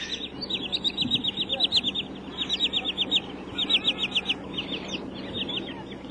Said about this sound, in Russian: Если в Тригорское из Михайловского идти понад речкой, заливным лугом, из болотцев, то и дело выпугиваются крикливые кулики черныши.